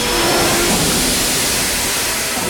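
A train rolls into Castletown Station with a loud, steady mechanical rumble and a faint tonal whine, the noise easing slightly toward the end as it slows to a stop.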